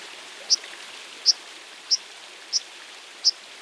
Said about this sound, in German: Das ist die Wasseramsel. Die macht sehr scharfe, hohe Rufe. Und das ist prinzipiell ganz was Typisches für Vögel, die an Fließgewässern vorkommen.